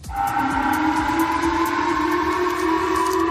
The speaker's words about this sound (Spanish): Son alarmas antiaéreas. El Ministerio de Defensa de ese país ha informado esta noche que Corea del Norte ha lanzado un misil balístico que habría caído en el Pacífico y que ha sobrevolado parte del territorio de Japón, algo que no ocurría desde 2017.